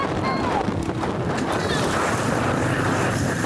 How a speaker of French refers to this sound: En attendant, notre traversée se frotte au vent et à l'eau.